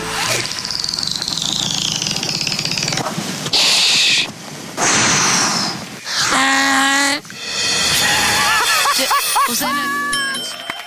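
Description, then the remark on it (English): A man imitates a dolphin as a parting 'dolphin kiss' after being eliminated on a rose-ceremony dating show, with a series of high, squeaky whistles and chattering clicks that rise and fall in pitch, coming in several loud bursts over a steady rumbling background. “The human dolphin in full force.”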